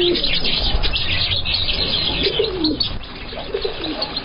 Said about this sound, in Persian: مردم از زیبایی های این ساحات استفاده میکنند که از سقف زینه ها سنبل های تر و تازه چون چلچراغ مساجد به هر طرف آویزان است و صدای پرندگان خوش آواز نیز گوش های هر شنونده را نوازش میدهد.